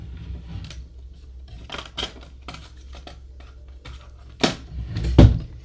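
Someone rummages through a drawer looking for a letter, with scattered small clicks, taps and shuffling knocks, ending in a couple of louder clunks; no one speaks.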